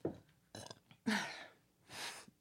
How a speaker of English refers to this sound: So, first up, hold on. I have to burp.